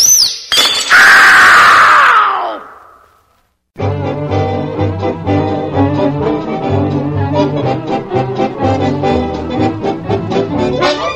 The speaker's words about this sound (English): cups and saucers are breaking up my happy wedded life.